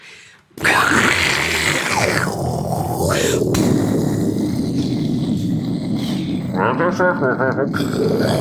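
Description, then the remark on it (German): Someone imitates a hissing tiger, a loud, raspy, breathy snarl that bursts in abruptly and rolls on for several seconds with throaty, growling strain. “Nee, das war jetzt ein fauchender Tiger.”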